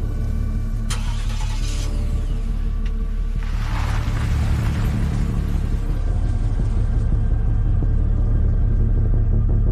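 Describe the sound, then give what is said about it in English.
A car engine rumbles steadily, deep and continuous, with a couple of brief rougher surges as a man gets back in his car and it pulls away, the low drone carrying on to the end without any voices. “Eddie watches with increasing alarm as the man gets back in his car.”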